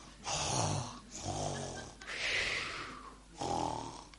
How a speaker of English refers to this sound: And then I looked closely down on the deck, and there, seated around the seats, all around the deck, were the crew. They were fast asleep and they were snoring.